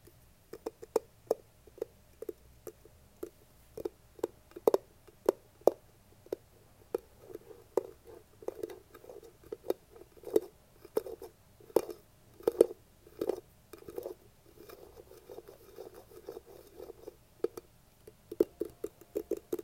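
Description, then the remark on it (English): Quiet, steady tapping on a glass jar of con queso cheese dip, made as ASMR: a long run of light, hollow clicks with a muted ringing tone, sometimes spaced out and sometimes in quick bursts. There is no talking. “Just make quiet tapping on jar noises.”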